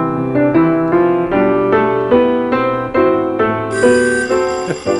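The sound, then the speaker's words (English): Quiz buzzer bells ring loudly in a rapid, uneven run of bright metallic dings that overlap and keep going for several seconds, with no talking. “Lots of ringing this time.”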